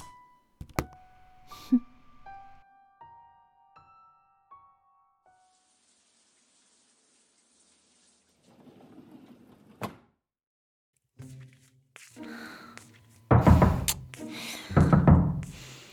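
Heavy thuds of someone banging on a door and demanding it be opened, a couple of isolated knocks early on, then loud, forceful bursts of pounding near the end, with brief electronic tones and quiet gaps between.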